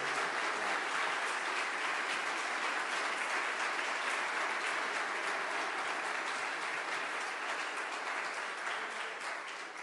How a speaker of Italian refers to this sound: Abbiamo qui in questo momento, per questo spazio, dedicato a tutte le ragioni del no contro la follia del DDL Zan, contro la follia del gender, il vice direttore del La Verità, Francesco Borgonovo. Facciamogli un grande applauso.